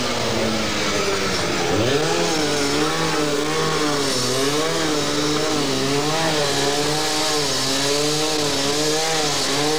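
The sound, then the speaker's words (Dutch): A power saw whines steadily, its pitch dipping and rising repeatedly as police use it to cut through barricades inside windows during a protest, with a dense noisy background and no speech. “Inclusief nu een soort zaag, waardoor ze de barricades binnen de ramen kapot maken.”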